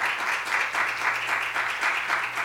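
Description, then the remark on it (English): An audience claps together in sustained applause as praise to the Lord, many hands producing a dense, steady patter with slight rhythmic swells, loud, with no voices standing out. “If you love the Lord tonight, let him know with a hand clap of praise.”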